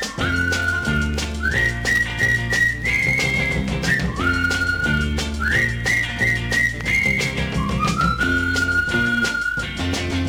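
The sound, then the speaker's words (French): A bright whistled tune of rising and falling phrases with held notes, loud, carried over a steady instrumental backing with bass and percussion. It is the friends' call whistle that boys use to hail a friend in the street. No one speaks. “Pour l'appeler, il emploie un truc qu'ils ont mis au point, le sifflet des copains.”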